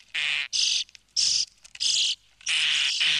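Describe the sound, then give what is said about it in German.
A common starling sings at dawn, about 15 minutes before sunrise, in bright, buzzy bursts of chattering and whistled notes, repeated in quick phrases with short pauses between them, with no voices present. “Der Star legt erst 15 Minuten vor Sonnenaufgang los, dann aber richtig.”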